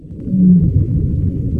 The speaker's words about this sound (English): And sometimes, Ziak scores two remarkable sounds back to back. A little bit of a vocalization from a baleen whale.